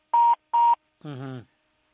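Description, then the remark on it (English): Two short, steady electronic phone-line beeps sound in quick succession, followed by a brief fragment of a voice before the line goes silent as a caller's phone line cuts off during a live radio phone-in. “That phone is gonna cut off. Unfortunately, the phones are a bit of a problem.”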